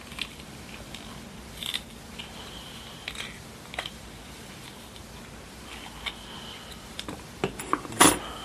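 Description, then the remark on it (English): Scissors snip in short, crisp clicks at irregular intervals as someone trims around the edges, with a few louder cuts toward the end. “See if we can clean it up here around the edges.”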